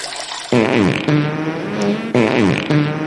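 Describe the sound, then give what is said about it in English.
Loud, cartoonish fart sound effects from a free toilet simulator game, a buzzy, wobbling blast that repeats four times in quick succession with brief pitch sweeps, with no talking. “was you peeing and farting? Gross. No, I was using the toilet simulator.”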